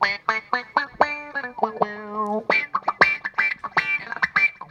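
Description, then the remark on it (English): An electric guitar played through a Gaiatone Wah Rocker 3 wah pedal, with short choppy notes and sustained chords that sweep and quack in a funky, duck-like, vocal-like way, with no one talking. “Wah Rocker 3 by the good people at Gaiatone, and it makes me sound like a duck, which I enjoy.”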